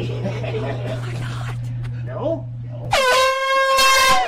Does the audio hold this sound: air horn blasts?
yes